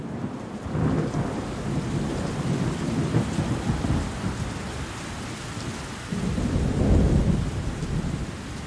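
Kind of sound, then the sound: nature, thunderstorm with rain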